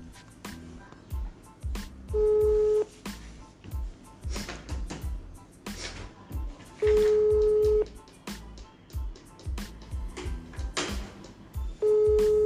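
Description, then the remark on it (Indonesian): A phone ringback tone from an outgoing call to a female guest sounds three times, each steady buzzing ring lasting about a second, spaced roughly five seconds apart over a rhythmic background beat of music; the call is not yet answered. “Nah, kita telepon aja nih Pak ya.”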